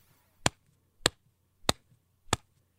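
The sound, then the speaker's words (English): Four bright, sharp snaps spaced evenly about half a second apart, each crisp and percussive, ringing briefly over a low steady hum with no talking; a bright snap sound effect used as one layer of a punch sound, in the style of the classic World Star Hip Hop punch. “You hear this like bright snap.”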